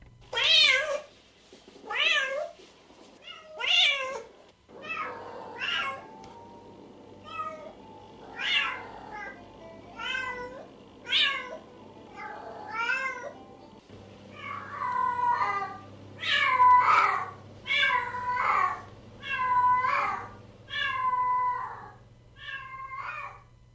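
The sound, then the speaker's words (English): Asian hybrid cats, bred for their distinctive markings, meow over and over, loud, a steady string of about twenty calls, some rising and some rougher and wailing, over a low constant hum with no one talking. “Now, the Asian cat hybrids are becoming trendy as they're bred for their distinctive markings.”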